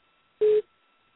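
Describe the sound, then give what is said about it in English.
A single short electronic phone beep, a steady mid-pitched tone lasting about a fifth of a second, sounds on an otherwise quiet line as a caller's phone call drops. “She beeped again.”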